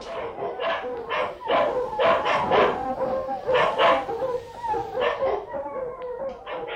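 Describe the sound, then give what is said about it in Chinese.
A pack of hunting dogs, released toward a wood where wild boars roam near Zhongmu County, barks and howls in overlapping bursts, a fairly loud, continuous clamor of yelps and drawn-out howls with no one speaking. “前面嘅树林， 系 好，立即放猎狗过去。”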